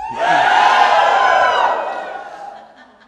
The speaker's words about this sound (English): Okay, there was definitely shouts of joy. I did not hear too much wailing and sadness here. I guess you guys are all quiet mourners.